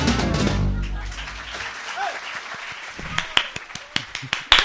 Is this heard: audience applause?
yes